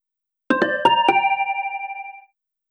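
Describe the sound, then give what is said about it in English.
A telephone rings with four quick, bright chiming tones, the last one sustaining and slowly fading away. It is clear, with no one answering and no voices. “But as you can tell from our answer phone message, we desperately need someone to answer the phone.”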